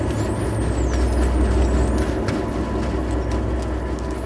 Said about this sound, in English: It's a bottlenose dolphin recorded near Auckland late last year, trying to communicate over the top of a large ship.